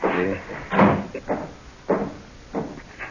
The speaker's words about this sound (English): No, wait a minute. Let me shut this door.